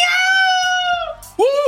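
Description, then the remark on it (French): A person loudly imitates a cat's meow with a long, drawn-out, high-pitched cry, followed by a second shorter meow-like yowl, with no other talking, opening the French FM radio show Big Bang Station. “Miaou!”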